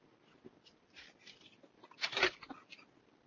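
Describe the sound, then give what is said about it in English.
Someone takes a drink of water: a few soft sips and mouth noises, then a louder slurping gulp, all quiet and with no talking. “Drink of water.”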